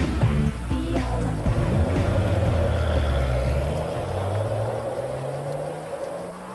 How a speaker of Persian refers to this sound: او، ماشینت اینه؟ چقدر کوچیکه. آره. خیلی خوب، بزن بریم. کمربندتو ببندیسی.